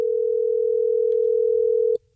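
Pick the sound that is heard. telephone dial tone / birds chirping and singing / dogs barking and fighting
telephone dial tone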